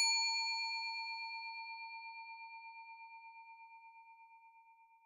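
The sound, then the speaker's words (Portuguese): A bakery's shop door bell gives a single clear ding as someone enters, ringing on and slowly fading with a gentle wavering shimmer. It is heard alone, with no voices. “Ouço o sino da porta de novo. Alguém entrou na padaria.”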